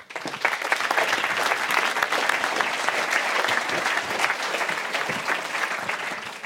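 A live audience at a university applauds steadily to welcome two speakers, a dense wash of many hands clapping that fills the whole span at an even, fairly loud level before tapering slightly at the end.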